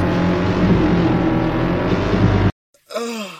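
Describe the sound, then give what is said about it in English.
A motorbike engine roars loudly and steadily for a couple of seconds, then cuts off abruptly; after a brief silence, a rising and falling wailing moan follows. “Motorbike.”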